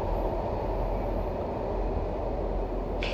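A subway train runs with a steady, loud, low rumble and rattling roar that fills the whole stretch, with a brief airy hiss rising right at the end; no one speaks.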